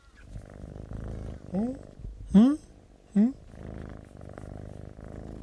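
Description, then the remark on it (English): A kitten purrs steadily throughout, a low rumbling drone, broken by three short rising chirps or trills spaced about a second apart. “That's the cat.”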